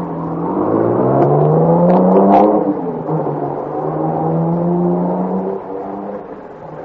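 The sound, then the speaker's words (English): A car engine revs up with a rising whine, drops pitch as it shifts gear, then keeps droning steadily as the car, carrying four men, pulls away and drives off through a village. The engine sound is loud and continuous, with no voices. “They all pile into the car and take off through the village, supposedly after me.”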